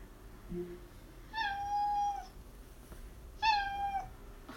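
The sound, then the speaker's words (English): A cat meows twice, the first call long and drawn out, the second shorter, both clear against a quiet background with no talking. “Do you want a bowl of milk? Oh. Okay, I take that as a no. Alexa. Meow, meow.”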